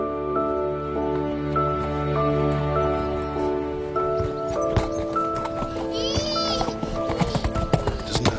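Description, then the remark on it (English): A horse ridden by a three-year-old child canters, its hooves clattering in a quick, uneven rhythm that grows louder in the second half over a steady background hum, with a brief high whinny-like cry midway. “Three-year-old kid on a horse at a canter.”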